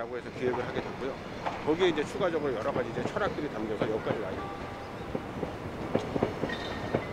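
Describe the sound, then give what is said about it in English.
A train rumbles past below through a rail yard in Seoul, heard from an elevated garden walkway built on a former highway, a steady rolling clatter with occasional sharp metallic clicks, while voices murmur in the foreground. “A train passes us below as we cross over the rail yard.”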